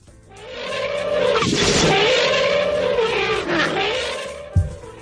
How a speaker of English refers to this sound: There's an elephant for you, folks. Can we hear that one more time, Tino?